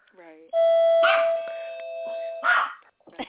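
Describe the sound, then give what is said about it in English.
A dog barks twice, a second or so apart, fairly loud, over a steady ringing electronic tone like a doorbell chime, with brief murmurs at the start and end. “actually, it's very funny that the dog is barking.”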